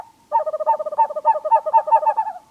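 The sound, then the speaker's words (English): A screech owl gives a rapid, tremulous trill of evenly spaced, wavering whistled notes, steady, lasting about two seconds with no other sounds around it. “Screech owls start courting as early as February, so now is the ideal time to get started.”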